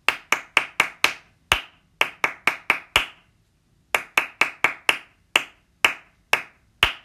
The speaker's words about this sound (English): Here comes the clapping as an extra test. One, two, three, and.